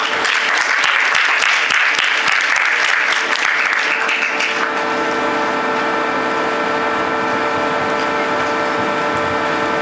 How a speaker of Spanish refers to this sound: Por favor, un fuerte aplauso para él.